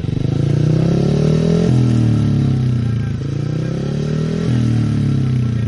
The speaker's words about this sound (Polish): Specjalnie dla gościa odpalono motocykl żużlowy.